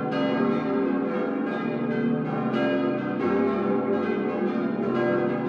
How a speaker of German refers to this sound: So eine Kirchenglocke, die hat ja in der Advents- und vor allem Weihnachtszeit Hochkonjunktur.